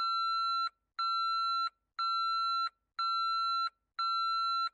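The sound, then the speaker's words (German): An electronic alarm beeps in a steady pattern, five long tones about once per second with short gaps between them, loud with nothing else audible. “Bevor Joshua antwortete, ging schon wieder der Alarm los.”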